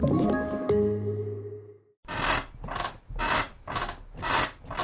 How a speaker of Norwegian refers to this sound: Slutt å forstyrre naboen med den knirkete senga di.